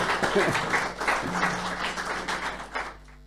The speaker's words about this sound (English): And Digitale Gesellschaft is our financial overlords. They're the company that was able to make this all happen. So thank you, thank you, thank you. So shout out, applause, and please some applause for them for dealing with us for actually Yay.